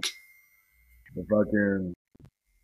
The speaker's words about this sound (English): I'm thinking that's me for a minute. My new computer's so damn loud with my notifications. God damn. I keep getting notifications